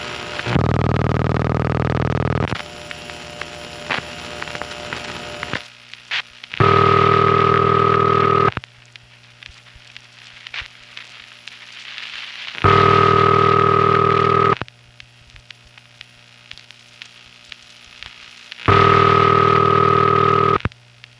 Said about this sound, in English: which is actually ringing my phone bell at this point, sounds as heard through my phone patch